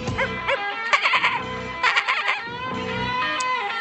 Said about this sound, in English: I'm just afraid that every song is going to have like a goat whinnying or something in the background without warning.